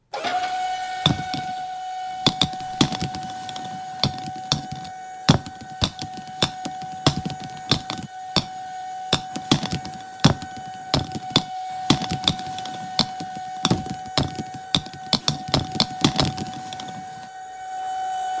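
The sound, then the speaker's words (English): The Triple M ball machine fires out golf balls with a steady whirring hum while the hard golf balls clatter and knock sharply at irregular intervals throughout, with no one speaking. “We are firing up the Triple M ball machine.”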